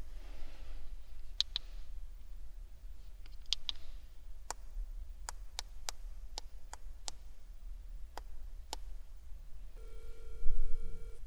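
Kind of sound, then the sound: signal or alarm, phone call ringing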